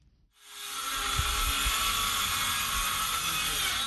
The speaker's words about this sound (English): The roar of power drills fills the air in the village of Guidemartin, a typically quiet community of 2,000 people located some 100 kilometers from the Senegalese capital of Dakar.